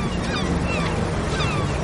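Steady wind and rushing waves on a boat deck, a continuous loud wash of noise with faint whistling tones drifting through it, and no one speaking.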